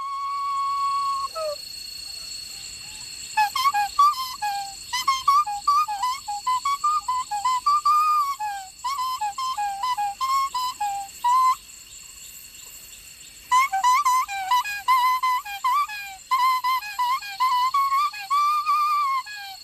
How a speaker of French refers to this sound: On continue ce tour du monde des langues sifflées du côté du Laos. Au Laos, où je vous propose d'écouter la langue sifflée des mondes d'Asie du Sud-Est, extrait de l'enregistrement de Jérôme Petit pour Arte Radio.